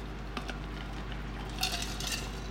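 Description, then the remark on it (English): A quiet sip of water from a glass: a couple of faint glassy clicks, then two soft slurping bursts over a steady low hum, with no one talking. “I should probably edit these because I just took a sip of water.”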